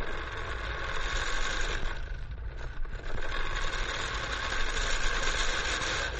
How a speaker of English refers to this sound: Yep, that's right. Somebody at your house has to roll out the old lawnmower and get busy. Now, cutting the grass and trimming hedges is a job that can be looked at in two different ways.